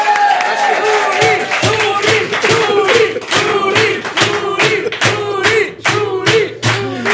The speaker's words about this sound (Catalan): Bé, segurament nosaltres també rebrem, així que fem-li la pilota, sisplau, i rebem un fort aplaudiment a Carles Xuriguera!